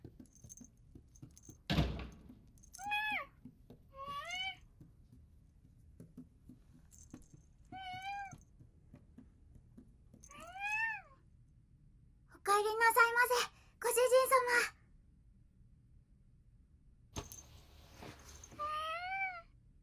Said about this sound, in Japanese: にゃっ！鍵の音！ご主人様だにゃ！ご主人様が帰ってきたのにゃ！